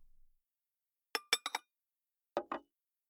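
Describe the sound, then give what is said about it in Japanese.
Dishes clinking as a table is cleared: a quick cluster of four sharp, bright clinks, a pause, then two more ringing knocks of crockery, with no voices. “あ、食器の後片付けは私がやりますよ。”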